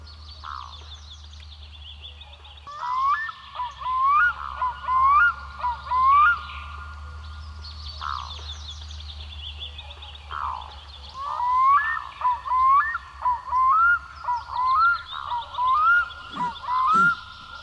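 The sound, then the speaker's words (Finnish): A black-throated loon swimming on open water gives two bouts of rhythmic, repeated wailing calls that ring out clearly over the water, with a low steady rumble underneath and no talking. “Siellä uiskentelee, huutelee kuikka.”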